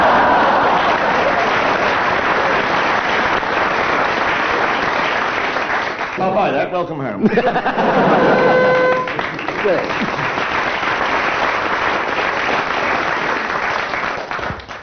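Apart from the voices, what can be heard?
studio audience applause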